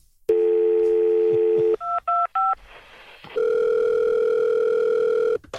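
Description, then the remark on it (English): A steady telephone dial tone hums, then three quick keypad beeps sound in a row, followed by another long, continuous phone tone. Clear, with no voices. “I'm trying to use the phone!”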